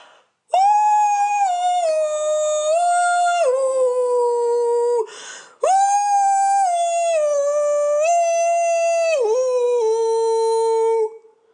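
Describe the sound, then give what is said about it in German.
A dog, Hatze, howls along to music playing on a car radio, in two long, loud, sustained bursts split by a short breath, its pitch rising and dropping in stepwise slides, with no voices present. “Die Hatze hebt die Schnauze, kippt die Ohren zur Seite und legt los.”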